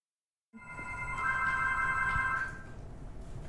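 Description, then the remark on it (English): A telephone bell rings once in a sustained, bright, metallic trill lasting about two seconds, then fades into a low background rumble. Nobody speaks. “Yes, I can hear the phone ring now.”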